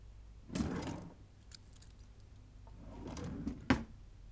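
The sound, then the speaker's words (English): Metal handcuffs clink and rattle in two short bursts, the second ending in a sharp click as they are fastened on a person lying on a bed with arms above the head, with no voices. “You already know why I keep a pair of cuffs in my drawer.”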